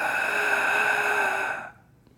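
A single strained, noisy breath caused by idiopathic subglottic stenosis, a narrowing of the airway, harsh and rasping with a high whistling edge, lasting nearly two seconds before cutting off into quiet.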